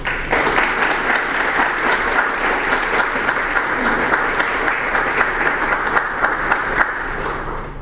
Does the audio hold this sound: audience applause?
yes